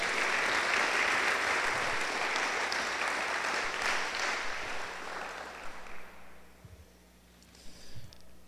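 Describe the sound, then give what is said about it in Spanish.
An audience applauds God together in a dense, steady wash of clapping that holds for several seconds, then thins out and fades, leaving a few scattered claps and quiet murmurs at the end. “Damos un aplauso a Dios, porque veo caras largas.”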